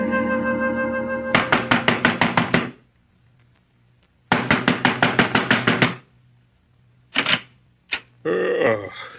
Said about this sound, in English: You banging on the right door, mister?